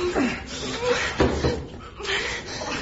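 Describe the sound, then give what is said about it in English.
A heavy panel slides aside to reveal a combination lock for the control room, scraping and rumbling in a few grinding surges over a couple of seconds, fairly loud, with no talking. “Slide that panel aside.”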